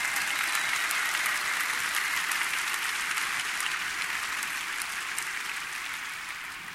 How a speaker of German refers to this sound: Ja, und da können wir schon klatschen, weil wir gleicher Meinung sind.